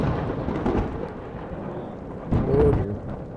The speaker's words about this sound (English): After a few moments, you hear almost like the sucking in of something, and then a pop and a nova of lightning comes off of him. And the lightning stops striking.